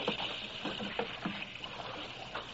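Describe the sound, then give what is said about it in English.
Water sloshes and splashes in quick, irregular scoops as it is bailed out with a bucket, with a steady watery rush underneath and no voices. “The faster we bail it out, it comes in again.”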